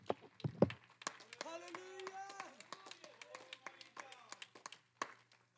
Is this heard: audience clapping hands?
yes